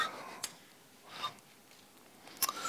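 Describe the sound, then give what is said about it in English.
Thin paper Bible pages are turned by hand to the book of Numbers, with three or so soft, crisp rustles and flicks spread over a few seconds, fairly quiet, with no voices. “This paper thing could really catch on, couldn't it? It's quite neat.”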